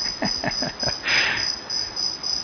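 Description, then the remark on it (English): A cricket chirps steadily in a continuous high-pitched trill, with a few rhythmic pulses and a brief broader burst of noise, and no one speaking. “And listen, not to the cricket, but the sound of your energy.”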